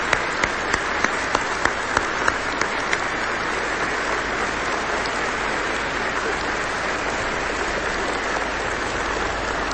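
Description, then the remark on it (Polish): A crowd gathered in a church breaks into sustained applause for Jesus and the Virgin Mary, a dense wash of clapping that stays steady and loud for the full stretch, with a few sharper individual claps standing out at the start. “ale Panu Jezusowi i Matce Najświętszej za to dzisiejsze spotkanie należą się najgorętsze oklaski.”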